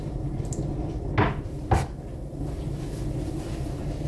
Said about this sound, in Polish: No i teraz ponownie trzeba założyć rękawice, otworzyć piekarnik i zdjąć pokrywę. Zamykamy piekarnik i chleb się nadal piecze.